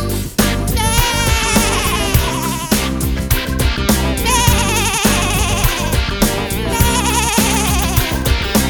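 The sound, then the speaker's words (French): A voice imitates a sheep, letting out wavering, repeated bleats throughout over loud, steady music with a thumping beat. “Maintenant le cri du mouton, trop facile.”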